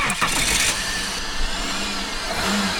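A car engine cranks and turns over, then catches and settles into a steady, fairly loud running rumble. No voices can be heard.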